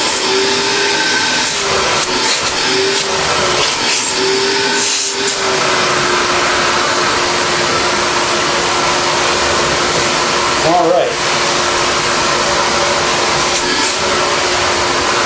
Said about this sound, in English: Let's fire it up. Here we go. This is the Craftsman 5-gallon. See, not as loud. I like the sound of this one, actually. It sounds very vacuum-ish. Very typical.